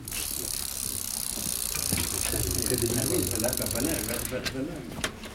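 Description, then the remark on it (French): The normal freewheel of Fausto's bicycle, spun by hand, ticks rapidly with a steady high pitch that blurs into a continuous buzz, while people talk underneath; near the end the ticking thins out into a few separate clicks. “Là, le son d'une roue libre normale.”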